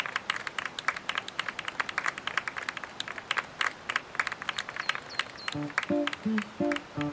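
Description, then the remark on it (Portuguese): A crowd applauds steadily in a dense patter of many hands clapping, lively, with a few voices rising in brief cheers toward the end, an audience applauding at the end of a song at a show. “Nem precisava aplaudir no final.”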